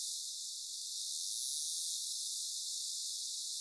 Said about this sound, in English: When they approach the fish, which is a fast-moving target, they start this buzz because they need to update their information about the position of the target the way bats and other dolphins do.